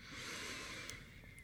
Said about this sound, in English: Okay, let's breathe first. Close your eyes and breathe. Air in, deep from stomach, and then out. But and don't hear you breathing. Come on, really breathe. Breathe in.